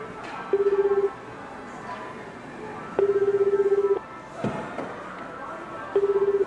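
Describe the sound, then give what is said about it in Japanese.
Electronic telephone tones over a quiet line as someone calls a toll-free number: a steady, slightly buzzing beep sounds three times, each about a second long, evenly spaced with pauses between, with no one talking. “犯人の言う通り、キャッシュカードと携帯電話を持って自宅を飛び出し、スーパーから言われたフリーダイヤルに電話をしました。”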